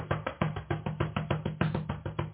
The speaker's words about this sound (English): Y'all can hear me clap my hands, right?